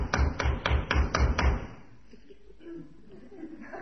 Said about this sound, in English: Must be important for him to keep on knocking like that. Yeah, it must be. I mean, I wouldn't keep on knocking like that if nobody answered.